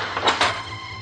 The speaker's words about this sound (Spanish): El hombre sale a rastras de la cuadra y camina hacia la puerta. Echa el pestillo.